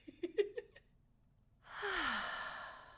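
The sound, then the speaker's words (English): A few short voiced sounds, a brief pause, then a big, full breath let out as a long, loud, sighing exhale, with a faint falling voiced tone. “You know, you can start right now at home by just getting comfortable and taking a big, full breath.”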